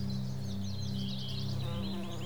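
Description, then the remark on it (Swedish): Bumblebees buzz in a steady, low drone throughout along a path lined with flowering bushes, while small birds chirp and twitter lightly in the background. “Och du hör humlor som surrar.”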